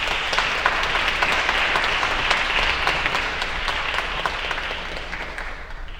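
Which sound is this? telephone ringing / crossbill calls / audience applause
audience applause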